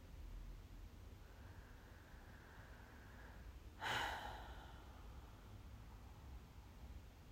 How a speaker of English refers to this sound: Start with a few deep breaths. And with every out breath, you let go of all the expectations, all the worries.